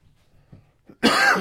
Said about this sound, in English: Excuse me. I missed my cough button.